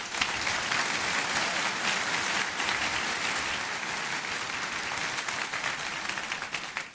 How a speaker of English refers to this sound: He's a software engineer, and it's his first time at FOSDEM, so it's a big occasion. It's not his first time reverse engineering, but it's the first time doing something that big. So a big round of applause for him.